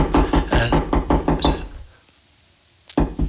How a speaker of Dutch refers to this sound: Waar komt dat kloppen vandaan? Komt dat hier komt dat van de grond? Komt dat van achter de deur?